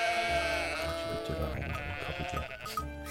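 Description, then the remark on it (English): A flock of sheep bleating together, several overlapping wavering cries filling the whole stretch without pause, close by and fairly loud, with no talking. “And you'll see just a bunch of sheep just kind of materialize out of the brush and line up behind the sheriff.”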